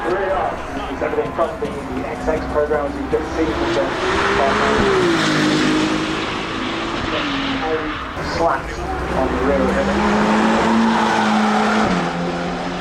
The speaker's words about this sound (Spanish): Pero primero, por favor, escuchemos más los motores de esta maravillosa marca de Ferrari.